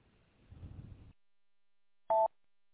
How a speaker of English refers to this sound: So, and it's starting to get windy, but I need to get off because my phone's dinging again.